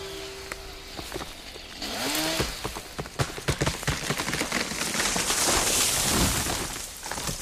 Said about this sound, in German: Das Ächzen der fallenden Buche geht in ein bedrohliches Rauschen über. Sekunden später liegt sie schwer und regungslos am Boden. Der Baum, der hier gefällt wurde, ist alt und krank.